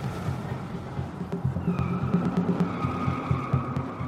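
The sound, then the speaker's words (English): A brand new American car's engine rumbles steadily on a road, then its tires begin a thin, sustained squeal about halfway through as the wheels slip through a slight turn, continuing over the drone to the end. “For a moment, you feel the wheels slip, the car no longer in your control, but then it comes back again.”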